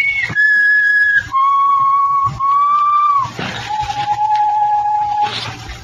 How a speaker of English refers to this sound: Well, go ahead. I'll be right up here at the head of the stairs. You'll just be there. Just keep whistling.